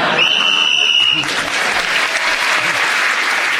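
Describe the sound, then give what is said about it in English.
Loud, sustained applause from a large audience, a dense wash of clapping, with a shrill whistle piercing through during the first second; the whistle goes as the speaker is speaking, gaining him an extra point, and the audience gives him a huge applause. “So, … speaking as a whistle went, gained that extra point, and he got the emotion of the audience with him of a huge applause.”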